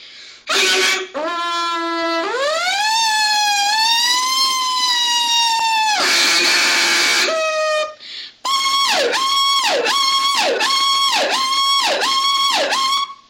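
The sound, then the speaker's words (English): Someone vocally imitates a Federal Q siren and power call: a slow rising wind-up into a sustained wail broken by harsh noisy blasts, then a rapid, pulsing power-call yelp. Loud, with no talking. “I'm going to show you my talent. I've been able to do this since I was probably 5 years old. So, here's a federal cue and power call.”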